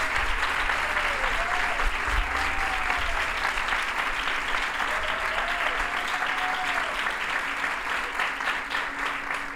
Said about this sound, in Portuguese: para quem peço uma enorme salva de palmas, por favor.